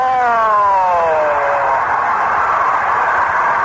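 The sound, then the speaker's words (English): A stadium scoreboard celebration after Richie Allen's game-ending pinch-hit three-run home run blares: a loud siren-like wail glides steadily downward in pitch, then fades into a sustained roar of crowd noise, with no one speaking. “I know it happened, but I can hear that scoreboard going off.”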